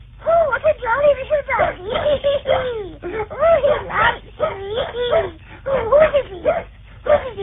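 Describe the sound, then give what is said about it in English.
A small stowaway dog on a boat yips and whimpers in quick, excited bursts, its high, wavering cries rising and falling almost without pause for several seconds. “Oh, what a jolly little dog.”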